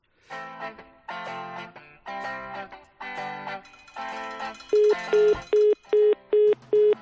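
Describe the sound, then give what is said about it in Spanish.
A telephone line signal: several buzzy, harmonic tone bursts, then six short, evenly spaced mid-pitched beeps like a busy signal, loud and steady with no voices. “No sé si este teléfono me anuncia que no puedo saludar a José F. Peláez.”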